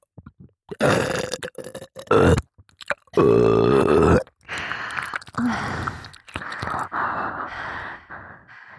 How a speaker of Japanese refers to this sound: 耳舐めしながらホーリーゲップで連発攻撃ですわ。